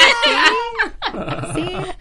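A dog barks in two drawn-out, yowling bursts with sliding pitch, fairly loud, almost like it is singing along.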